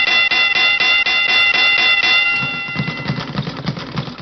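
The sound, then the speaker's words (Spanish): A boxing ring bell, rung by Omar Martínez, clangs in a fast, steady flurry of strikes for about two seconds, loud, then rings out and fades under a low background rumble. “Muy bien, vamos a pedirle a Omar Martínez que nos toque la campana de boxeo para oír a Edemio Navas.”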